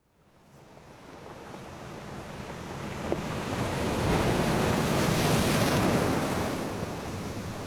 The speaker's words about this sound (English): I'm in Caithness and I'm literally standing in the middle of a hailstorm.